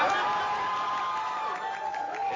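A crowd cheers and applauds steadily for a couple of seconds, a dense wash of clapping and shouting with a few higher whoops rising above it.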